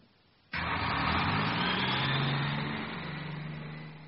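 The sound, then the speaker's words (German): A school bus engine starts up abruptly and rumbles steadily, a broad droning roar with low engine hum that eases slightly toward the end, like a bus pulling away; the children ride the bus home. “Die Kinder fahren mit dem Bus.”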